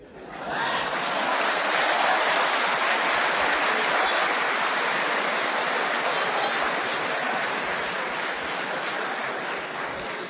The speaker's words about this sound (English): You see, person gets angry now. Because of your clapping, he's going to get angry. He's going to lose his temper. Please, take it easy. Please take it easy. Don't clap too much.